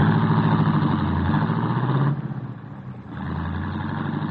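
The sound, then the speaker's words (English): A taxi cab engine hums steadily, its low drone easing briefly before picking back up, with the rumble of late midtown city traffic around it as the cab heads to the Bismarck Hotel. No one speaks. “Craven felt better as the lights of the city grew brighter and the sound of the late midtown traffic met his ears.”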